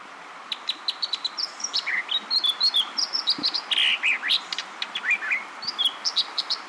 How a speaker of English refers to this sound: This brilliant song, ringing out over a rapidly rushing western stream, belongs to an American dipper. A songbird the color of wet gray stones, the dipper looks like a large chubby wren, or perhaps a gray robin with a very short tail.